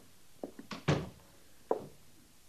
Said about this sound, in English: Close the door, Sergeant. Yes, sir.